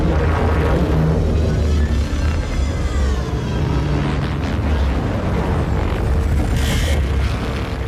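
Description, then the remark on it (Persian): A steady mechanical hum of approaching drones, with whining tones that rise and fall over a heavy, continuous low rumble. Loud throughout, with no voices. “پهپادا دارن میان.”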